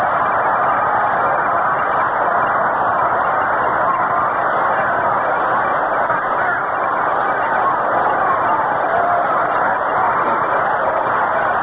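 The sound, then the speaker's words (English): Braves baseball fans in a stadium keep up rhythmic applause calling for a rally in the eighth inning of a scoreless game, blended into a loud, dense crowd roar that stays steady and unbroken for the whole stretch, with no single voice standing out. “Brave fans start that rhythmic applause now, calling for a rally.”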